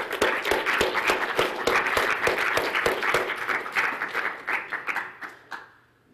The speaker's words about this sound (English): So I think we should have a final round of applause for all of our winners, because they all did a great job.